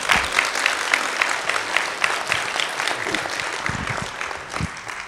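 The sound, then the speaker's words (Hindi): An audience claps steadily throughout, a dense, continuous patter of many hands at fairly loud volume that thins slightly toward the end, with no voices standing out. “देखो कितना अच्छा है, अभी ताली बजाओ, अभी ताली बजाओ।”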